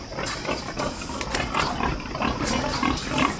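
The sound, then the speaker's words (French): Several pigs grunt and snort continuously in an indoor barn on a production pig farm, a dense overlapping chorus of low grunts with occasional higher squeals, fairly loud, with no talking. “Faut pas oublier qu'on est dans un élevage de production. Moi, je passe pas mon temps à caresser les cochons.”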